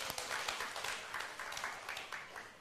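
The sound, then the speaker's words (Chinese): An audience applauds the children's group teachers after a children's stage performance for mothers, a dense wash of many hands clapping at a fairly even level throughout, with no voices standing out. “所以我们大家好不好再给他们一个掌声。”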